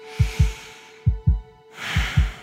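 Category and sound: human body sound, heartbeat thumping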